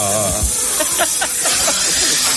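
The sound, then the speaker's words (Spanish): A snake beneath an award hisses in a loud, steady, breathy rush that runs without pause for a couple of seconds, with faint low thumps and murmurs underneath. “Papá, mira una serpiente debajo de tu premio de orujero mayor.”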